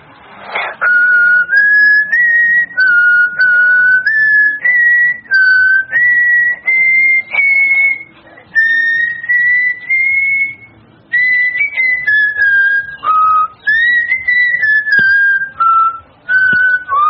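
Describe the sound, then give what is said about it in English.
A child whistles a melody alone at a talent show, loud, holding clear sustained notes that rise and fall in short phrases broken by brief pauses. “you can present a whistling item.”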